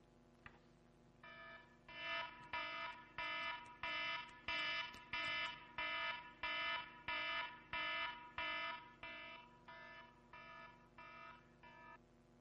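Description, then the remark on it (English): A harsh electronic alarm blares in a steady pulsing pattern, about a dozen evenly spaced bursts roughly twice per second, fairly loud against a low background hum with no talking. “I thought that'd be louder than it was. The alarm.”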